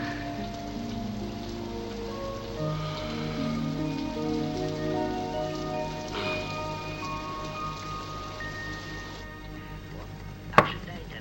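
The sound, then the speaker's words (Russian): Steady rain patters in a constant hiss beneath sustained, melodic tones, with no talking. The texture holds evenly throughout, and a single sharp crack stands out just before the end. “И вдруг все это, дождь и ты, понимаешь?”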